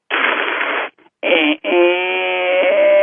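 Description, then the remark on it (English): A voice imitates distortion: a harsh, hissing burst of static, a brief pause, then a rough, buzzing sustained tone with a steady pitch that grinds on for about a second and a half. “The first one is distortion, and it's like this.”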